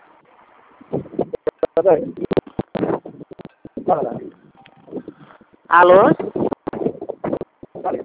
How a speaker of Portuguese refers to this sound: Tá na frente do ventilador, é? Não, aqui o vento aqui é forte mesmo.